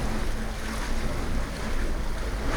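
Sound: sea waves and surf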